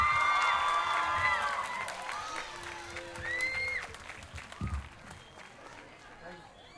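A crowd in Anaheim, California applauds an act being introduced, with dense, steady clapping, joined by cheers and high whoops that rise above the noise before the ovation gradually thins out.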